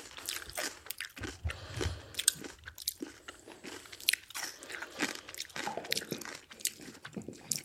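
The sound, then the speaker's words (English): Wet crunching and chewing of crisp fermented radish sauerkraut taken from a 200-liter vessel kept in a cellar, a steady run of sharp crackly bites and mouth sounds repeating over several seconds with no talking. “It's crunchy.”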